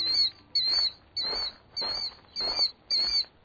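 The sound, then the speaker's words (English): A killdeer, a sentinel bird, gives its alarm call in its nesting territory while flying overhead: six loud, strident, high-pitched notes, evenly spaced about half a second apart, with no talking. “That's the loud and strident call of a sentinel bird, in this case, a killdeer.”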